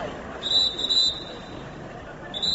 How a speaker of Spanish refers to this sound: Las ciudades volvían a recuperar el sonido de los silbatos de los policías locales para poder controlar el tráfico, ya que los semáforos no funcionaban.